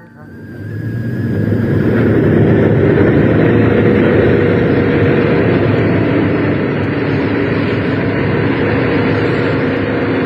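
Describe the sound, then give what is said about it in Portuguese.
A heavy truck passes a toll booth: its deep engine rumble swells up in the first couple of seconds, then holds loud and steady, a continuous diesel drone with a faint high whine above it. “Nem bem o primeiro caminhão passa, ela repara na frase escrita no para-choque.”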